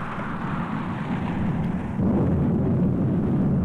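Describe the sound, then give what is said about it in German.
A deep, continuous roll of thunder rumbles loudly with no one speaking, swelling noticeably partway through and staying heavy and booming to the end. “Es donnert und die Häute kriechen herum, als wären sie lebendig.”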